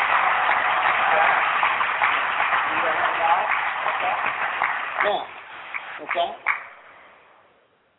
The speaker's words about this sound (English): Give him a round of applause, okay?